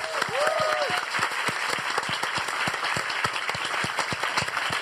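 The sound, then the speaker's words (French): An audience claps steadily to welcome guest Pénélope Bagieux on an evening show, a dense stream of sharp handclaps at even loudness throughout, with a couple of brief whoops or cheers rising over the applause near the start. “Applaudissements pour Pénélope Bagieux.”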